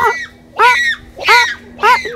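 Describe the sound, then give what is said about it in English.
Kanzi gives four loud, high-pitched calls in a steady series, said to signal something down in a hole, each a short harmonic squeal that rises and falls, with brief pauses between them and a faint steady hum underneath. “How is Kanzi saying this? I mean, to you and me, it would sound like...”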